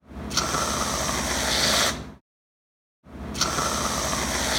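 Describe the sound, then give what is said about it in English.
A can of whipped cream sprays into a mouth twice, each burst a steady, sputtering hiss lasting about two seconds, separated by a brief silence. “that was the sound of me putting whipped cream in my mouth”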